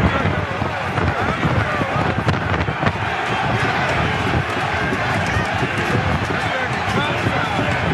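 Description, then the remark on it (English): A video of a rioting crowd of Trump fans beating a police officer with an American flag pole: many voices roar without letup, shouting over one another while sharp thuds and bangs break through the dense din. “This is what the crowd was like.”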